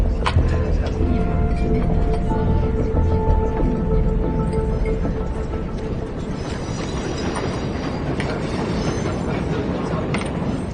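A train car rumbles along the rails with a steady, loud low roar and faint tonal whines, continuous throughout. Some muffled voices sit beneath the noise.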